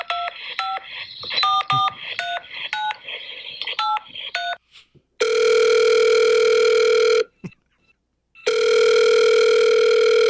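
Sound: telephone ringing tone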